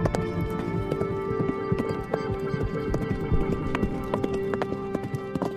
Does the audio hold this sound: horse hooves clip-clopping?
yes